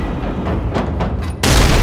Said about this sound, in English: The blast doors are still closing when an explosion sounds behind them, putting Raud on the deck and staggering Thiel so that he has to brace himself against the wall.